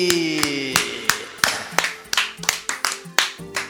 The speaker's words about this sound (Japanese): もう拍手に覇気がないな。